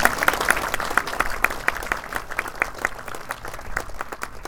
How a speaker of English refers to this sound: So if you would give them a round of applause.